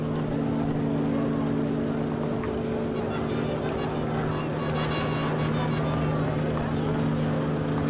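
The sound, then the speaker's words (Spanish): A motorboat, one of the launches, drones steadily as it passes in front of people on a pier, who applaud. A low humming tone sits over a wash of water and wind noise, with faint murmuring voices mixed in. “La gente aplaude cuando enfrente de ellos pasa esta embarcación, una de las lanchas, a su vez, está ocupada por unas 8 señoritas que han ido cantando alabanzas o canciones de iglesia inclusivas.”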